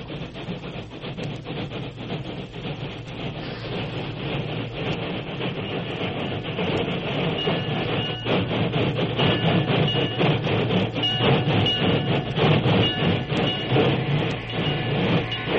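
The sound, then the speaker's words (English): A train arriving at a small junction rumbles steadily for the whole stretch, with dense low-end roar, faint rhythmic clatter of wheels on track, and occasional hissing and metallic squeals, growing slightly louder toward the end. No voices. “Kimasabi, train come.”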